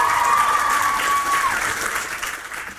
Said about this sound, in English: She got a lovely dress, everybody. Bless you. You look lovely. Give her a big cheer. That's how lovely you are.